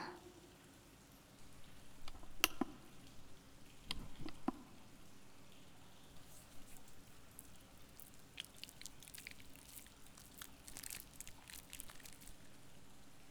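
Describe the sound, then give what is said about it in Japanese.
Wet, squishy rubbing of body soap being worked into plenty of foam, with soft irregular squelches and a few sharper clicks early on, fairly quiet, continuing steadily with no talking. “泡いっぱいにした方が気持ちいいからね。準備してあげて。”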